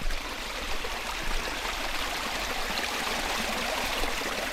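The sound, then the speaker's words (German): Water babbles slowly along a narrow levada irrigation channel beside a hiking path, a continuous trickling and gurgling with no voices, holding an even level throughout. “Es macht dann etwas kühl, Vogelgezwitscher und die Levada plätschert langsam vor sich hin.”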